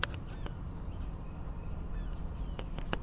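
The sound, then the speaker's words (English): Sparrows chirp in scattered short bursts inside an aviary, having flown in through small holes, against a steady wash of outdoor background noise, the calls thin, with no one speaking. “How did sparrows get in there?”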